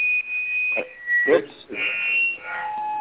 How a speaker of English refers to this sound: There is a strange beeping sound. If somebody did not mute themselves, can you please mute yourself?